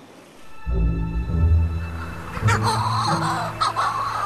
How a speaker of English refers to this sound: I've just heard my first shearwater. If you didn't know what that was, it could be a pretty frightening sound.